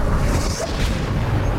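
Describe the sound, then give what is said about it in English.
A plane explodes at night over Nazi Germany: a loud, heavy roar of rumbling, crackling noise with deep low-end weight, holding steady at full force for the whole moment, with no voices. “The plane explodes behind you.”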